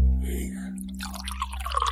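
A drink is poured into a glass, a gurgling trickle that starts about halfway through and rises slightly in pitch as the glass fills, over a low steady hum.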